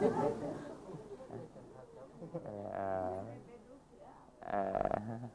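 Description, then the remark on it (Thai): A person imitates a wolf howl with a drawn-out voiced wail that rises and falls in pitch, followed by a shorter, louder howl-like burst amid murmured voices. “แล้วมันจะได้ยินเสียงไอ้หมาป่ามันหอนใครหอนเป็นไหมสร้างบรรยากาศหน่อย”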